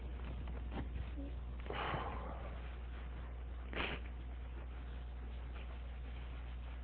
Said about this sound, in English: Right now it's raining big time and the crop is the best it's ever been. So the sniffing is going to be impossible to get out of this thing.